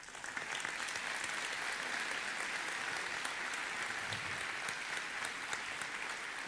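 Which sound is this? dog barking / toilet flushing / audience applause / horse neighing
audience applause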